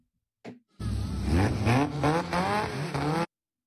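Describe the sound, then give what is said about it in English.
A car engine at a car meet revs hard, its pitch climbing and dropping in repeated surges for a few seconds before the clutch is dumped for a launch, then cutting off abruptly. “Okay, so he revved both, it and dumped they're both the clutch launching.”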